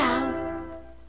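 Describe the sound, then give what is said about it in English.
A single sustained sung note from a jingle for Purina's Meow Mix cat food, rich and harmonic, starting loud and slowly fading over about a second, alone with no talking. “Meow Mix tastes so good, cats ask for it by name.”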